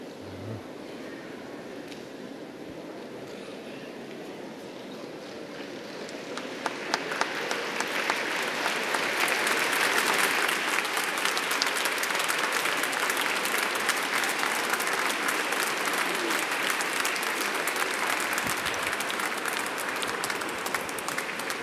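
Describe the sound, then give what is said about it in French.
Sustained applause from a large crowd in a reverberant basilica as young people and scouts take their places on the steps around the central altar during a pilgrimage, a steady dense patter of clapping that starts moderate and swells louder around seven seconds, continuing without pause to the end. “Sous les applaudissements, tous ces jeunes se mettent en place sur les marches autour de l'autel central de la basilique.”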